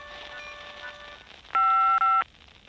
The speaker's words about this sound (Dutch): Ik ben er niet. Na de piep kunt u een boodschap inspreken. Na de piep, dan bel ik u zo snel mogelijk terug.